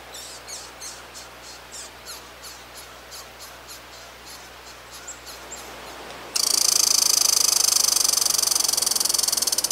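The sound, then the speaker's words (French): A squirrel's alarm call from a squirrel that has climbed an oak tree, with a cat at the foot of the tree: a rapid, steady run of sharp, high-pitched chirps, then an abrupt switch to a loud, continuous raspy buzz that lasts to the end. No one speaks. “Il devait se sentir en danger, alors il a sans doute préféré prévenir les autres écureuils.”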